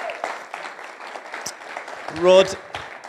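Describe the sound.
A crowd applauds with a steady patter of many hands clapping, and a loud voice briefly cheers over it partway through before the clapping continues.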